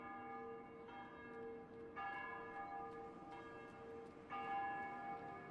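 Church bells toll in a slow, uneven sequence, each new strike ringing out over the lingering hum of the previous ones. The sound is fairly soft and resonant, with no voices present.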